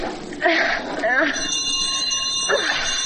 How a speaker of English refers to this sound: Oh, for crying out loud, that'll waken the dead for sure. Well, the bell's one of those old Victorian contraptions with miles of wire running through the walls of the house, you know.